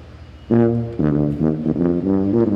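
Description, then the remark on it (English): A tuba blares in a tunnel, a run of loud, low honking notes, a long first blast followed by several shorter punchy ones in an uneven rhythm, with no talking. “They're the parade, but I'm the music and I'm in the tunnel, the tubatorium. All right, play us out. We got to get him honking here.”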